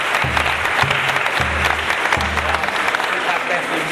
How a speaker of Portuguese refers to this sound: Uma salva de palmas pra você, professora.